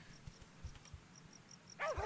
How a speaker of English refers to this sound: His bark is scary, but remember, he sees us as part of his pack